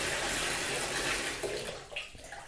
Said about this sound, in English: You turn on the water. Okay, that's beginning to fill up. Kind of what you expect from a bathtub. Yeah, it's filling up pretty nicely. I'm going to turn off the faucet here for a second.